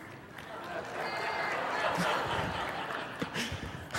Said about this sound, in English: I don't know how I feel about that applause.